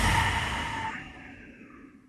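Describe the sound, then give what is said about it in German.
A single long, soft, breathy exhale during a guided relaxation breathing exercise done with eyes closed, fading out gradually over about two seconds with no talking. “Wir atmen ein und aus.”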